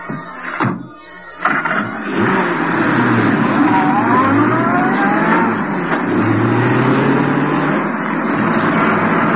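A convertible's engine turns over with a few sputtering bursts, then catches and settles into a steady, loud rumble that rises in pitch as the car pulls away. No one speaks.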